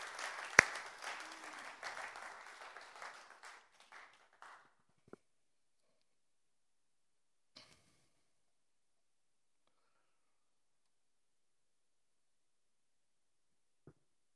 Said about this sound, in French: Allez, magnifique. On va applaudir le Seigneur.